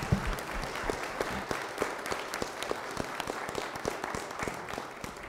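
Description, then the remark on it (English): An audience gives a coach a round of applause for his work in the schools and community, a dense wash of many hands clapping with sharper individual claps popping out, holding at an even level for several seconds with no talking. “And I would just like a round of applause for Coach and the wonderful job that he's done.”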